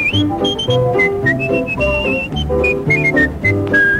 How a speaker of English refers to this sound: Then wiggle your finger, put it on your nose, grab your ear and whistle.